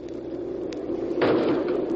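A heavy airplane door swings shut at Haneda Airport in Japan, with a muffled thud and rush partway through, preceded by a faint click, all over a steady background roar of engines and noise.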